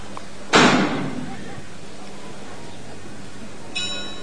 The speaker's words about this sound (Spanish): Silencio absoluto en la Plaza de las Angustias a esta hora de la tarde. 6:35, el tañir de la campana.